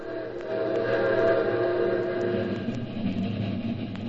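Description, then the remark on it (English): A train rumbles steadily along the rails, a dense continuous roar with faint rhythmic clicks and metallic squeals layered on top, fairly loud, with no voices. “when I went after those thieves, they kidnapped me aboard a train and... Listen.”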